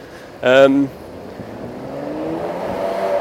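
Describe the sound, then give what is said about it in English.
A Ferrari sports car engine in central London gives a short, loud rev, then settles into a steadily rising growl as it accelerates past, its pitch climbing over a few seconds. “If it's not a lorry, it's a Ferrari.”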